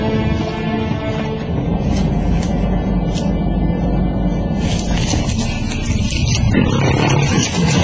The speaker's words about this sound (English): Hearing the lion's ominous warning and realizing that a charge is imminent, the hunters spread out.